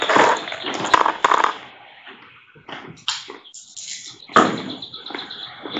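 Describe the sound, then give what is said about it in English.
Percentile dice are rolled, with a few bursts of rattling and clattering across a hard surface, moderately loud, with brief pauses between the tumbles. “okay, roll percentile dice.”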